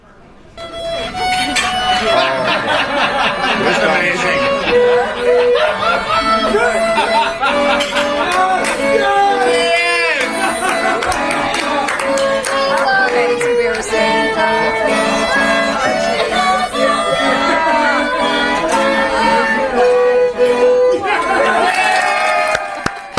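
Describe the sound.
A packed room of big families eating at ten-person tables roars and cheers wildly, a dense, loud wall of shouting and whooping voices that stays intense and unbroken for over twenty seconds.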